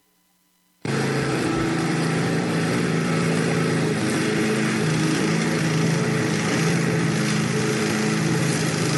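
After a brief silence, a lawn mower engine abruptly roars to life and keeps running loudly and steadily, a buzzing drone that holds without pause to the end.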